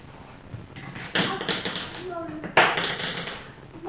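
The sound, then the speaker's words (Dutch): Pencils clatter onto a hard floor in two sharp, rattling bursts about a second apart, with a faint voice murmuring briefly between them. “Boem, voor de potloden allemaal op de grond.”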